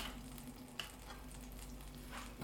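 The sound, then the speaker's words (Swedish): A steady, low sizzle of food frying in a pan, a soft hiss with scattered small pops and one sharper crackle, with no voices. “Så fräser det lite grann.”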